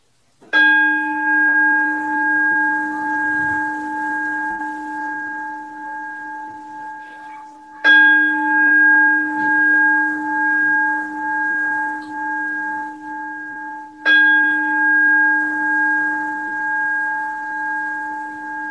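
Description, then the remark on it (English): A singing bell is struck three times at the close of a practice session, each strike about seven seconds apart, its bright, layered tone ringing out and sustaining until the next strike. No voices are heard. “And I'll invite the singing bell three times.”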